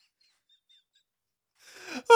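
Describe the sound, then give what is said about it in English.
A breathy human vocal sound swells after a near-silent start with a few faint high whistly tones, then ends in a sudden, sharp hiccup-like catch that is the loudest moment. “Oh, that's a good the little like hiccup at the end. Yeah, I'm going to say that's human.”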